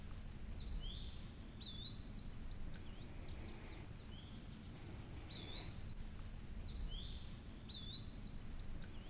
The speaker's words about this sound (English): We can stand here if you want to listen for just a few seconds. We can hear, you know, multiple bird species around us right here. Just listen to the quietness of it.